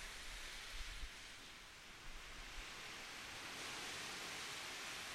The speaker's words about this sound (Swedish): Och jag vill att du börjar med att lyssna på vågorna och de ljuden som är omkring. Och ta hjälp av ljudet av vågorna och föreställ dig att du själv sitter på en strand tillsammans med mig.